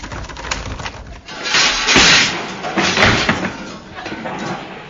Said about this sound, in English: Hey, what's the matter with the door? Won't budge.